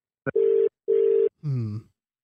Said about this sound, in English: Okay, it's ringing. As you can hear, it's ringing. It's ringing. It's ringing, guys.